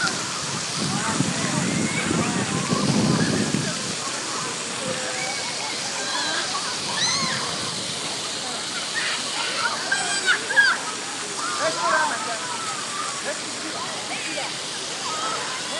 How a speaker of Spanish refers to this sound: y los críos se lo pasan bomba, vamos, están aquí, pues ya se les oye, ¿no? Bueno, de hecho, eso es lo que se oye cuando están las fuentes activas, los críos todos chillando.